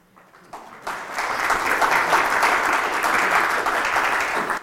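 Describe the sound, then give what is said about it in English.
A church audience breaks into applause after a sermon, starting with a few scattered claps and quickly swelling into steady, dense clapping that holds loud and even for several seconds with no talking over it. “People don't normally clap for my sermons.”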